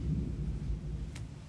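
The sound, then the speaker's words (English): A low, steady rumble of thunder rolls on without a break, deep and muffled, with a brief faint click partway through. “This is thunder?”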